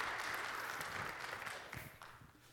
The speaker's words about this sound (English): Clap for him as he comes.